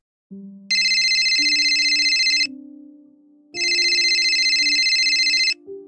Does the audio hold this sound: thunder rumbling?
no